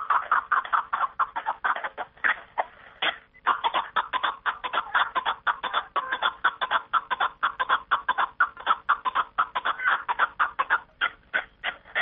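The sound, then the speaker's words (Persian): A snowcock partridge calls in a steady stream of rapid, clucking chuckles, loud, with a brief pause near the start before the rhythmic calling resumes and continues to the end. “بلکه به قول آنها در پنجکن نفرانی هم بودند که به رام و پرورش کپک دری مشغول بودند.”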